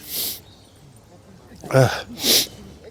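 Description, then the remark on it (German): A loud sneeze triggered by looking into the light: a voiced, rising 'ah' intake followed by a sharp, breathy burst, with another brief hissy exhale at the start. “Oder ich habe ins Licht geschaut und dann muss ich sofort das Niesen anfangen.”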